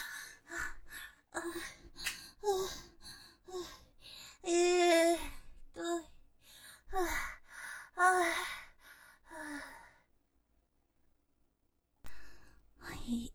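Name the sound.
heavy panting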